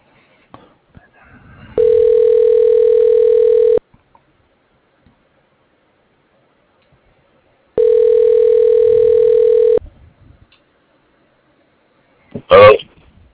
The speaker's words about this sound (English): I don't know why my phone called you back. It never hung up, and then it just started ringing.